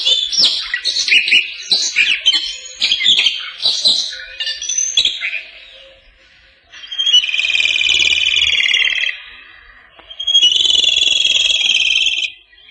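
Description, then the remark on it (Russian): A Siberian rubythroat sings clear, high warbling phrases, first a varied run of quick notes, then two longer sustained buzzy-whistled bursts separated by short pauses, fairly loud with no talking. “Вы слышите сейчас соловья-красношейку. Сибирская красношейка, эту птичку называют еще и так.”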